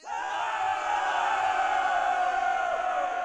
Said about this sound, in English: There arose a great cheer, and thus the lifeblood crossing was liberated.